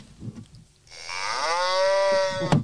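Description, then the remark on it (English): A single drawn-out cow moo from a novelty sound toy on a desk, loud, rising into a sustained harmonic bellow for about a second and a half after a brief quiet start. “Is this anything to do with a cow machine on the desk?”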